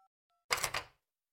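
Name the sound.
phone keypad dialing tones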